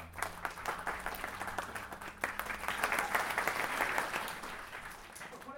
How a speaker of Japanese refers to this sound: で、あとは多分お兄さん、この人たちはすごく訓練されていると思うので大きい音が欲しいなって言った時、みんなちょっと拍手してみてください。